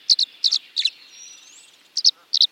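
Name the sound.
tree swallow song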